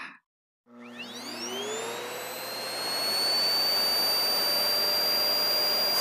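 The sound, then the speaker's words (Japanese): After a brief pause, a vacuum cleaner motor switches on and spins up with a rising whine, then runs steadily and loudly with a high-pitched hum over a rushing airflow, vacuuming far back under a bed in a bedroom. “ベッドの下も、奥の方まで掃除機かけてあげなきゃ。”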